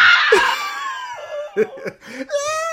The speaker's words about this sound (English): horrifying scream from the depths of her soul